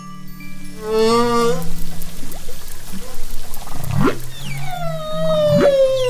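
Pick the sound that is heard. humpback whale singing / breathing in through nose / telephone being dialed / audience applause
humpback whale singing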